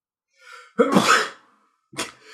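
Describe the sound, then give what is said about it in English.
A loud sneeze: a short breathy intake builds into one explosive burst that trails off, followed by a brief sharp sniff or snort. No talking. “I don't know why I thought your sneeze was so funny.”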